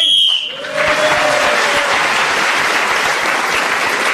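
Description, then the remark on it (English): A short, shrill whistle blast lasting about half a second, blown to end a round while a player is still speaking, followed at once by loud, sustained applause from a crowd that continues steadily to the end. “was again speaking as the whistle went, gained that extra point.”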